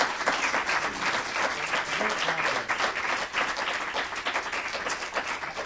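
An audience breaks into steady applause, a dense wash of many hands clapping at once, sustained at an even loudness for several seconds without any voices rising above it.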